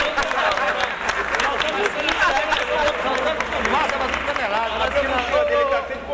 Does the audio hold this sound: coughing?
no